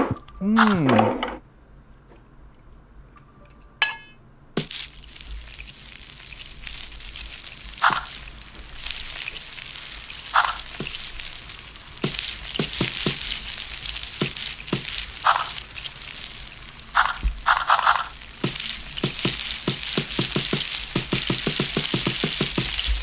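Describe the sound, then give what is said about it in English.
A hot dog cooking: after a brief vocal sound and a click, a steady loud sizzling hiss runs throughout, broken by occasional sharp clinks and thunks of utensils. “All right, let's make this dude a hot dog, man.”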